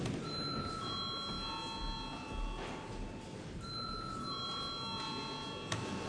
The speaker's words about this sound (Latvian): Paldies, lūdzu zvanu.